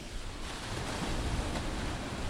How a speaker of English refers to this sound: You are joining me currently on the beach. I've just come for my daily exercise, a little walk, on our first rainy day for some time, actually. It's high tide. The waves are really close to where I am, so I hope it's not too loud.